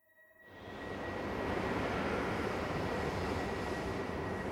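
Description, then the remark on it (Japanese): A train rumbles in alongside platform 2, its broad roar swelling quickly from quiet and then holding steady and loud, with a faint high whine running through the noise. No one speaks. “2番線のホームに電車が参ります。”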